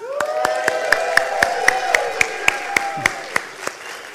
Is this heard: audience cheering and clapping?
yes